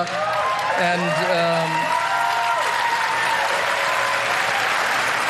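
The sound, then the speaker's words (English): Steady audience applause fills the whole stretch, a dense, even patter of many hands clapping at constant loudness, with a few whoops and voices rising briefly above it near the start. “You don't have to clap out of obligation.”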